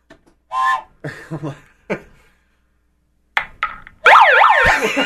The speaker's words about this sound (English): And I hit the siren button. Oh, not bad. It's not loud enough. It's not loud enough.